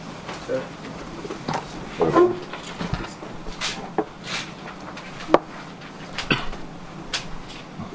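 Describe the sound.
A wooden chair is shifted around with a series of short, irregular scrapes and knocks, while indistinct voices murmur in the background.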